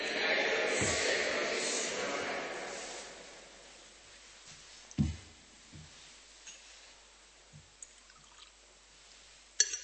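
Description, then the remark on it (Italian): A short stream of water pours into wine in a chalice, a soft splashing hiss that fades after a few seconds, followed by a few light clinks and taps of metal. “L'acqua unita al vino sia il seme dell'unione con la vita divina della nostra natura umana.”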